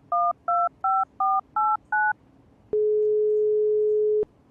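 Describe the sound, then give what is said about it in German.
Six quick touch-tone beeps as a phone number is dialed, each a short dual-pitched chirp in steady rhythm, followed by a single long flat tone that cuts off abruptly. No voices. “Ahnung, war wahrscheinlich meine Paniknummer. Hier probier die mal.”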